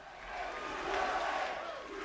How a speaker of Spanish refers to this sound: Estos son los aplausos con los que es recibido Donald Trump, con gritos de USA, USA.